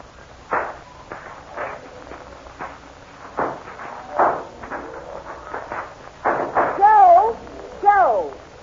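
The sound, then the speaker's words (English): Sharp firecracker pops burst at irregular intervals on a Fourth of July morning in Fort Smith, Arkansas, as a family prepares for a picnic, some louder than others, over a low background murmur, with a wavering, warbling cry rising over the last couple of bangs. “Our story begins on a perfect 4th of July morning in Fort Smith, Arkansas, as a happy family prepares for a picnic to the accompaniment of sputtering firecrackers.”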